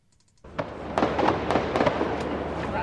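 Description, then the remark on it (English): Gunfire outside a shopping centre, starting up again after about an hour of lull during a security operation: several sharp cracks go off at irregular intervals over a loud, continuous wash of rumbling noise that starts abruptly after a brief quiet moment. “Well, you can hear some firing starting up again now.”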